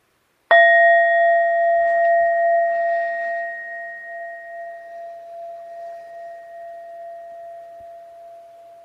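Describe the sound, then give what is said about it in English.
A single meditation bell is struck once to close a meditation session, then rings on with a clear, steady tone that slowly fades with a gentle wavering shimmer over several seconds, heard alone. “So I'll go ahead and ring the bell once and three times to come to a close.”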